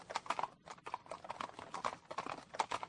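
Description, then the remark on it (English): Hooves clip-clop steadily on a hard surface, many hoofbeats overlapping in a brisk, uneven rhythm as several horses of mounted French army officers pass, following soldiers heading on foot for the German border, with no talking. “They head for the German border on foot, with their officers following on horseback.”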